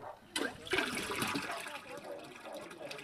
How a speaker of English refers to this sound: There's the water well with the automatic pump.